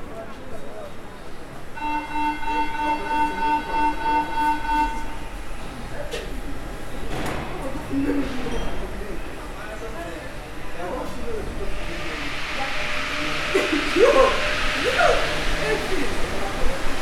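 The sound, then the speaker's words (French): A metro train at Charpennes underground station: steady rumbling rail noise, a short run of repeated chime tones near the start, then a loud rising hiss of air toward the end, with murmuring voices. “Je vous emmenais dans l'endroit où j'aime le métro, à Charpennes.”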